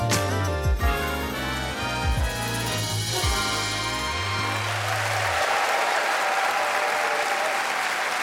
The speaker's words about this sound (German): Vielen Dank, vielen Dank, vielen Dank. Das ist ein Applaus, der überhaupt gar nicht so klingt, als hätten wir ihn vorher geübt oder als hätte ich ihn eingefordert.